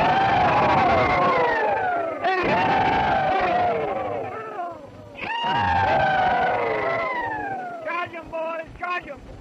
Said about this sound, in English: Ladies and gentlemen, I have the pleasure of announcing to you that we are going to make an effort to repeat the old rebel yell. One, two, three!